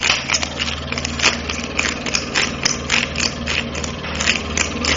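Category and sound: vehicle, car engine starting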